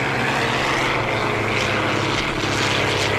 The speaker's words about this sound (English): A horn is blowing, and they begin charging into each other. It's hard to visualize, which is why you have to go, but listen now to the clangs of contact over the noise of the straining diesel engines as the announcer calls the action.